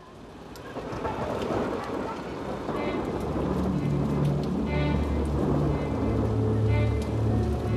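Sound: heavy rain downpour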